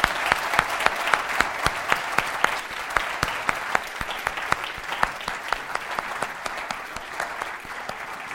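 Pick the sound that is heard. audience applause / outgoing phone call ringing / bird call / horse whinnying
audience applause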